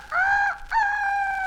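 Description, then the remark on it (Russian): A rooster crows loud: a short cry, a brief break, then a longer drawn-out note that holds steady to the end, with no talking. “Молодец, мой петушок.”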